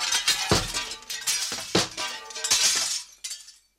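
A burst of crashing porcelain, several loud shattering impacts in quick succession with bright, ringing shards tinkling and scattering before fading to silence.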